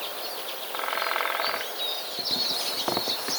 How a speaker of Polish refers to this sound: I wróciliśmy pod czyże wesołe. Tak się zachwycamy tymi śpiewami ptaków, ale trzeba wiedzieć, że u nich jest to czas bardzo nerwowy.